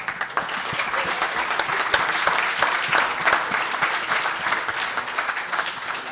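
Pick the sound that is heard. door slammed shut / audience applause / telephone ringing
audience applause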